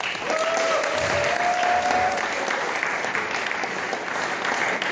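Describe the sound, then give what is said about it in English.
A hackathon audience claps and cheers for the Sino Lario volunteers, steadily and loudly for about five seconds, with a whistle rising briefly over the dense, even applause before it carries on unbroken. “I'm pretty sure I saw 25 different people around here like working as hard as they possibly could, so we should definitely give those guys a cheer.”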